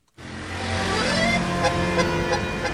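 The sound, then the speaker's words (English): Steady street traffic in Paris, France, a continuous rumble of passing vehicles that starts abruptly and holds at a fairly loud level, with sustained tonal notes ringing over the noise. “Paris, its accordions, its traffic pollution.”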